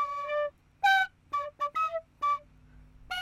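A penny whistle plays a held note followed by a series of short, bent notes in quick, uneven bursts, fairly loud with no talking.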